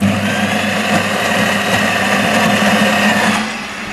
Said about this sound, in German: Das ist eine Kaffeemaschine. Dieser Mann ist offenbar kaffeesüchtig.